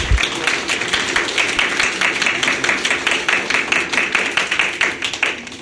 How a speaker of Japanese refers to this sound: どうぞ皆様拍手でお迎えくださいませ。